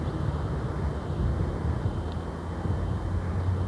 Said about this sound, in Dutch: En eens even de lenteavond voelen. De wind, nog een verre merel op de achtergrond.